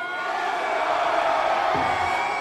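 A large concert crowd roars and cheers continuously, a dense wall of shouting and whooping that stays loud and steady throughout.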